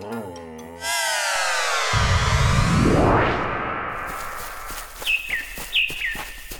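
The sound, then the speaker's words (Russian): After a rising whoosh, a few bright bird chirps ring out in the second half, repeated short calls over a soft outdoor background in a sunny summer forest. “Солнышко так ласково светит, птички поют.”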